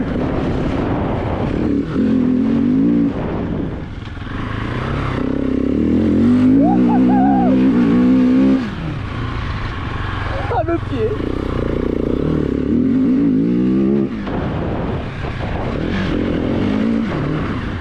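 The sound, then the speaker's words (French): An enduro motorcycle built for the Baja roars as it is ridden, climbing through several rising surges of acceleration with a loud, steady drone between the bursts. “Donc c'est une moto qui a été montée pour la Baja, hein, avec la carte Californie du Sud.”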